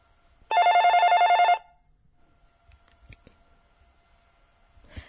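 A single loud burst of a telephone ringing, a rapid trilling electronic ring lasting about a second, followed by faint clicks and quiet line noise as a call connects on Radio Belgrade to a seventh-grade pupil of the Lazar Savatić primary school in Zemun.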